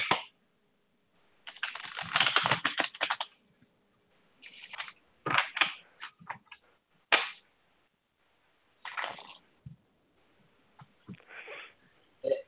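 Playing cards being shuffled: several bursts of crisp riffling and soft slapping, the longest early on, then shorter flurries separated by brief pauses, with no talking.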